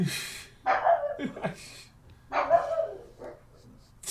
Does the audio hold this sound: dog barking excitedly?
yes